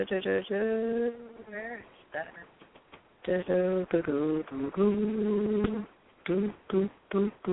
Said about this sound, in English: Sorry. I'm just humming a little bit while I...